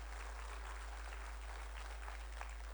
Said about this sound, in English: Can we all give Vern a big clap and say thanks for looking after us?